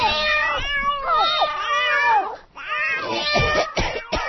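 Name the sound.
cats meowing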